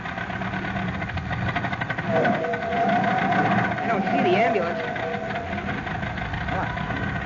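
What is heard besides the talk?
old car engine running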